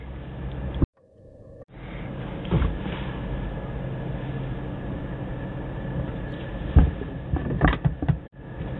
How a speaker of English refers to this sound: Where I am just fumbling with the recording equipment today. Sorry about that.